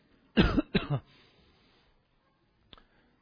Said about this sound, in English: A lot of people are asking about my cough. I know it's hard to listen to.